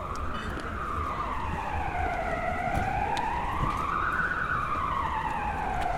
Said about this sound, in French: Voilà, vous avez entendu un petit peu de sirène. Un petit bout de sirène.